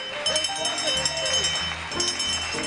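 Cattle low and bellow in a busy cluster while cowbells clank steadily underneath, a dense, lively farmyard scene with overlapping animal calls and a constant metallic jangle.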